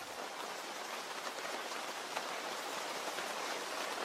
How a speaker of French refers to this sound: organisateurs de cette journée Escape Game, ce jour-là, sous la pluie, avec la pluie, malgré la pluie.